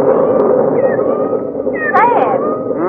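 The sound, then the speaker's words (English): Several thin, high mews of kittens outdoors rise and fall in short wavering cries, the clearest near the end, over a steady low rushing noise. “Sound just like little kittens.”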